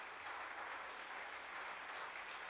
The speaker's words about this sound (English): Come on, give him a great clap. Isn't that great?